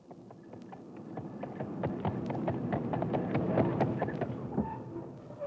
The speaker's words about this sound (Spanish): En cosas de guerra pensaba ya, no más, cuando oyó el trote del caballo prendido al volantín del juez.